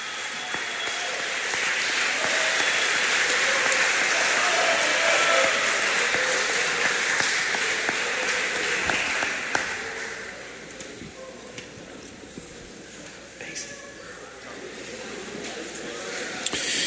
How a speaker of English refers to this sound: Let's have a big round of applause for your three-year award winners.